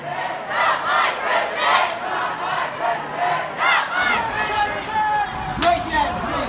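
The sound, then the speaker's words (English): A large crowd of protesters marching in a U.S. city chants in a steady, repeated rhythm, the loud massed voices rising and falling in pulses. Mixed shouting and a few sharp cries follow. “Meanwhile, in cities around the U.S., people marched in protest.”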